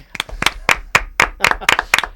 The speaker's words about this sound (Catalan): Un aplaudiment pel tècnic, no, dius?